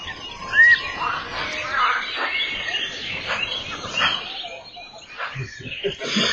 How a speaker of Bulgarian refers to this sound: Мираме се в уютното планинско селце, голямо Лъжене. Бистро поточе, весело бълвука край полянката,